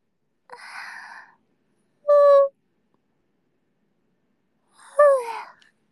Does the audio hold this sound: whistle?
no